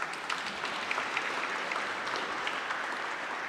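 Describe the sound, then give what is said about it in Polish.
An audience claps steadily for a few seconds to welcome guests from the Akademia Kultury Społecznej i Medialnej in Toruń, a dense, even patter of many hands with scattered sharper claps standing out, no voices over it. “Wielkie brawa.”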